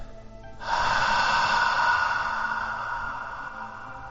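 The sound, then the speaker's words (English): A slow, steady exhale through the mouth with the throat slightly contracted, a soft sustained breathy rush that begins abruptly and gently tapers over several seconds, with no talking. “And each time you breathe out, if it's convenient, squeeze your throat out, contract your throat ever so slightly.”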